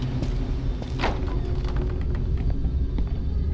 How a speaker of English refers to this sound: Keep the car running.